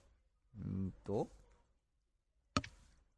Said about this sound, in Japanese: ちょっと今、大至急、大至急今、ミクシー、ログイン。 はい。はいはいはい。 ちょっと今、あの、カタカタ音がしてるかもしれませんけどね、キーボードを叩いております。